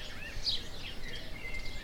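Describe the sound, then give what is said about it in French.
Soft, high-pitched bird chirps and trills scattered over a quiet, steady background hiss, with no voices. The calls are faint and overlap loosely without a clear rhythm. “Vous êtes bien, vous êtes détendu, vous entendez le chant des oiseaux”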